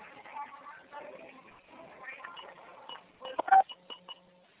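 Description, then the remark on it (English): Murmured background chatter from several people in a room, heard over an unmuted conference call phone line, indistinct and low-level, followed by a few sharp clicks and short electronic beeps near the end. “All right, well, someone is in a room full of people that haven't muted the phone.”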